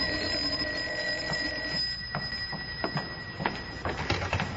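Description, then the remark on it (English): A telephone rings with a continuous, rattling bell tone, steady and fairly loud, over a background hum with scattered sharp clicks. No one speaks. “And then, when we'd almost forgotten about them and we'd started talking as if the world had a future after all, and maybe we had a future too, the phone rang.”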